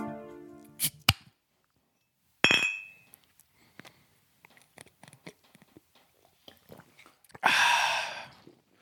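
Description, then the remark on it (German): Glasses clink together in a toast, a bright ringing knock, followed by scattered small taps and rustles and a brief airy hiss near the end. “Prost.”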